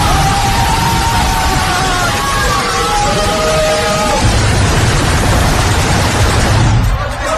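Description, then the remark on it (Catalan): Loud, excited shouting and cheering from a Saudi Arabia fan celebrating the winning goal against Argentina fills the first few seconds, then a man fires a machine gun into the sky, rapid harsh bursts rattling on over the crowd noise until the sound cuts off. “De cop i volta surt un home amb una metralladora i comença a disparar cap al cel per celebrar la victòria del seu país.”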